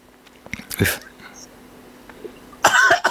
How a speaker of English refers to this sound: I'm coughing because I carry a special dispensation of light in my throat as a healer. And when I'm clearing, so right now I'm clearing the world on through my throat. Mm-hmm. Clearing that toxic energy, and it's releasing.